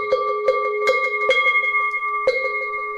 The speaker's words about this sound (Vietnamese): Thì thầy này là chúng ta ba hồi chuông, hai hồi xuống và một hồi lên.